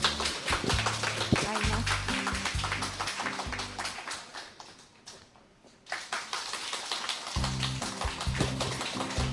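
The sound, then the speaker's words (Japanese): An audience applauds steadily, with many hands clapping in a dense patter. The applause briefly thins midway before swelling back, and low sustained musical notes play beneath it. The applause welcomes a storyteller who performs a period piece, Uguisu, from Fujisawa Shuhei's Edo Onna Esugata Juni-kei. “どうぞ拍手をお送りください。”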